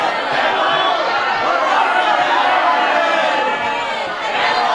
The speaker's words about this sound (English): The MTA thanks you for doing your part. You sound like a noisy crowd of people.